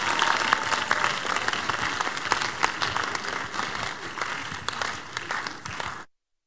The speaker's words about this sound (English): Come and give the Lord praise. Give him a big clap of praise. Give a big clap of praise.